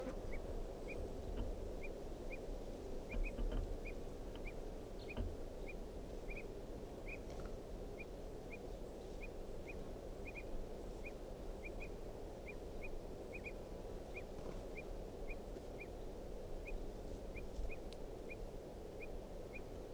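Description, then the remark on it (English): A wild bird repeats short, sharp alarm calls at a steady, insistent pace for the whole stretch, fairly distinct over a constant low outdoor rumble. “So recording is a wild bird again. Giving alarm calls.”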